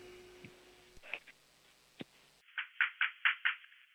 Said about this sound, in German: Okay, dann musst du zur Tür gehen und anklopfen, aber so richtig laut.